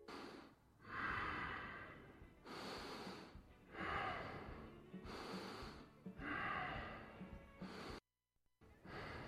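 Heavy, rhythmic breathing of a woman, with about four loud, raspy inhale-exhale cycles, slightly snorting, a brief pause near the end, and no talking.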